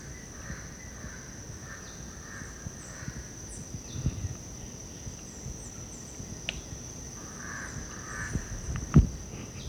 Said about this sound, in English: Black crow? Yeah. Here's a crow close to us and then black billed parrots overhead.